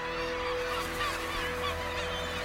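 A flock of birds flies away, giving harsh, honking calls that overlap continuously, goose-like and fairly loud, with no talking.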